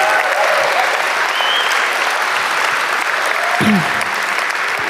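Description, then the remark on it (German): Sustained audience applause for the team behind a video clip: a dense, steady wash of many hands clapping at an even, fairly loud level for the full five seconds, with faint voices briefly rising through the noise. “dem Team hinter dem Clip einen riesen Applaus geben.”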